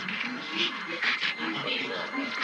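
Wavering, drawn-out howling runs for a couple of seconds with breathy, whimpering edges, sitting over a steady hiss of background noise at moderate volume.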